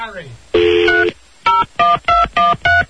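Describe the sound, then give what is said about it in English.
A phone number is dialed: a long tone burst followed by five short, evenly spaced touch-tone beeps, each a steady pair of pitches, loud and clear with no talking over them. “Oh, I got to call him up.”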